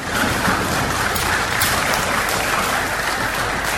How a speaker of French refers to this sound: Eh bien, les députés ont adopté par acclamation cette loi relative à la lutte contre la traite des personnes en République centrafricaine.